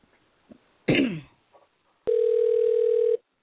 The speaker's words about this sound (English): And we're dialing.